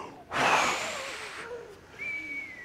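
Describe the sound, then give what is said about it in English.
A person blows a breathy, rushing whoosh with their voice, imitating wind; it swells loudly for about a second, trails off, then a thinner whistling breath follows. It sounds somewhat like a snore. “Okay, make a wind noise.”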